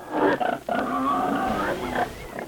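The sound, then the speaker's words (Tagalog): A pig grunts and oinks loudly, a rough, throaty run of calls that barely pauses over a few seconds, with no one talking. “Ya baboy may manok kinalayan niya pagbuatan ka Dios.”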